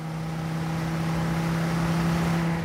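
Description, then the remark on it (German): The engine of an Excalibur, an American muscle car built as a copy of a 1930s Mercedes-Benz, drones steadily at a constant idle or cruising pace, a deep humming tone with a rough, throaty edge that stays fairly loud throughout, with no voices. “Wir sind jetzt wieder in den späten 90ern und im Auto des selbsternannten Reichsgrafen von Waldstein”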